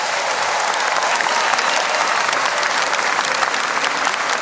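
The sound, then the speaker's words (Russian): A crowd applauds Vladimir Devyatov and Marina Devyatova steadily for several seconds, a dense, even wash of many hands clapping at once with no pause and no voices standing out. “Аплодисменты нашим друзьям.”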